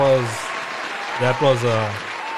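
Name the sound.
cheering and applause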